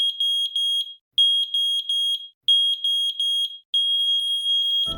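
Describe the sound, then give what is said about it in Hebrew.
A smoke alarm sounds in sets of three shrill, high-pitched beeps separated by short pauses, loud and steady, repeating four times with no voices. “התקינו גלאי עשן בביתכם.”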